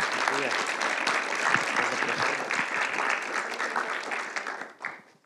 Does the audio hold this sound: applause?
yes